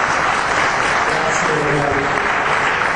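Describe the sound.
Sustained applause for a speaker from a large audience at a public discussion, a dense, steady wash of clapping with a faint murmur of voices underneath.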